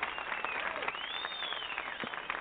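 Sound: crowd applause sound effect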